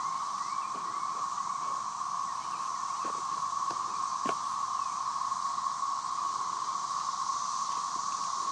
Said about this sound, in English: Wish us luck as we battle the cicadas in the great cicada attack of 2011.